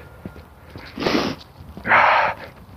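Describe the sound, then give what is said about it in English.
Two loud, breathy snorts from a dog, a short one and then a longer, harsher one, with faint sniffing and light scuffling around them and no talking. “Snort, snort, sniff, sniff. Panting, pushing to get back.”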